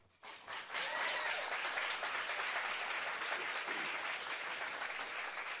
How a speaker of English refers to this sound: Let's give a nice round of applause to all the five candidates for the responses.